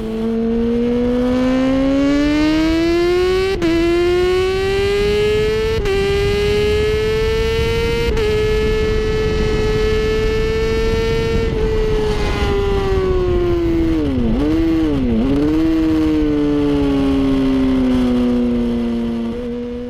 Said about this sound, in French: Ça, c'est vraiment une moto sportive, comme on peut le voir. Donc, avec le réservoir un peu haut, un peu imposant. Voilà, c'est une selle très en arrière, avec des cale-pieds très sur l'arrière, qui vont avec la sportive.